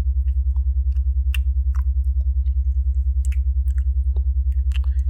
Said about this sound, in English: Noisily slurping as she lets her spit and saliva start to run down her fingers.